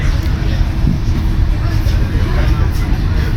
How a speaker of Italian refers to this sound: Treno dalla Spezia Centrale delle 18.40, 21 luglio 2024. Treno sul quale si è saliti per cause di forza maggiore, perché il treno precedente è arrivato alla Spezia con molto ritardo, quindi ci si sposta verso Pisa